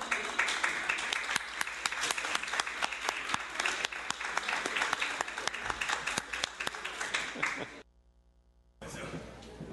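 A crowd applauds steadily with dense, overlapping claps for about eight seconds, then breaks off into a brief near-silence before the clapping resumes at the very end.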